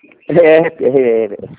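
A pet cockatiel gives two drawn-out, fairly loud chirping calls, each lasting about half a second, followed by a quick, shorter chirp at the end.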